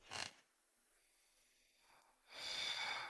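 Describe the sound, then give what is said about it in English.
Heavy, breathy huffs: a short sharp exhale, a pause of near silence, then a longer rasping breath that lingers, fairly loud. No talking. “Who is breathing?”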